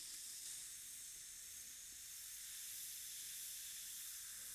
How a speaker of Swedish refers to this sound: Är det min, Björns, eller Johans C-vitaminbrus, eller bägges?